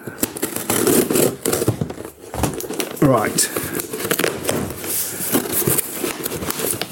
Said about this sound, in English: Okay, so this is quite a big box I've got. Okay. Okay, hang on. Put it on the table in front of me. I've armed myself with scissors.